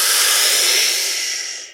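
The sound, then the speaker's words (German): A long, steady, full inhalation during a guided breathing exercise, an airy hiss that holds for nearly two seconds before tapering off. No one speaks. “Tiefen Atemzug ein, vollständig ein.”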